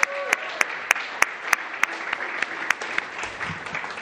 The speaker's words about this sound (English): Thanks. Can we get one more round of applause